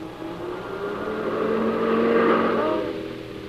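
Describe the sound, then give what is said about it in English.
A car engine swells as the vehicle approaches, peaks loudly, then fades as it drives past on the road; no one speaks. “Oh, Peter, there's a car.”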